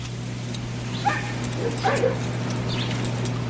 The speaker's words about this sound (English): Costa Rica, Central America, and thought you'd enjoy to hear the sounds of Costa Rican dogs barking.